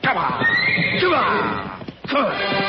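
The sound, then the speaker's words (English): A horse neighs loudly, a long shrill whinny with wavering pitch, followed after a brief pause by a second agitated neigh. “The horses smell the cat. They won't go in that canyon.”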